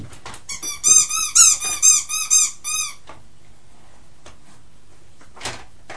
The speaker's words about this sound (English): That's a pig, isn't it? It's a funny noise for a pig to make, isn't it? It's a funny noise for a pig to make.